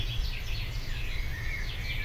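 A Eurasian nuthatch calls in a steady stream of high, whistled notes outdoors over a low background rumble.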